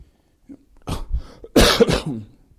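Two harsh coughs in quick succession from a person with a years-long cough that is a side effect of medication, the second louder and rougher than the first, with no talking around them.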